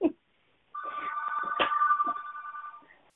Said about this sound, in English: Get a phone call.